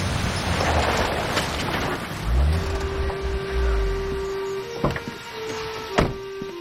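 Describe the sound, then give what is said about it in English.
A Jeep's engine rumbles low as it arrives at a mill in daytime and slows, settling into a steady idling hum, followed by two sharp clicks near the end. No one speaks. “At the mill, Cody stands on the balcony as Faith arrives in her Jeep.”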